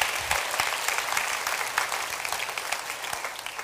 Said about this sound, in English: Give these men a round of applause.